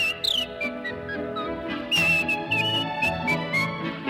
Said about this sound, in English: With a yodel like a church bell's chime. And the whistle bright as polka time.